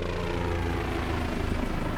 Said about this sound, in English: It was a low-flying army helicopter.